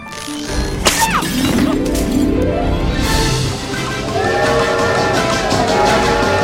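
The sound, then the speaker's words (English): An overfilled trash bag breaks as Mickey drags it in the kitchen: a loud tearing burst followed by a clattering spill of debris and shattering bits, with rattling and crunching continuing steadily over several seconds, and a faint voice underneath. “Carrying one on his shoulder, he tries to drag another, but it breaks.”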